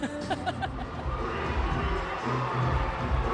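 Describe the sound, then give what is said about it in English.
A crowd in a tent cheers and shouts in approval of a woman's dancing, in a steady, dense roar, with excited voices and a few higher yells rising over the din throughout. “The crowd approves of her dance moves.”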